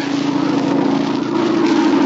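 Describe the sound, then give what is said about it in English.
A loud, steady propeller-engine drone of a low-flying airplane passing just above the trees, a continuous buzzing hum that holds strong, swelling slightly toward the end, with no voices. “It's a plane, all right. Must be gonna land near here. It sounded mighty low. Just above the trees.”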